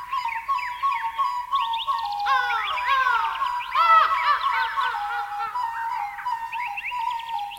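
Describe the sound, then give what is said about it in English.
A lively chorus of blue jays, cardinals and big black crows in the trees, singing and chirping, many overlapping high, quick whistles and trills going on steadily at moderate volume, with no voices present. “I hear singing, said Whiskers. Birds, answered Mother Fox.”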